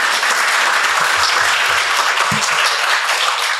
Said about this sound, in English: A round of applause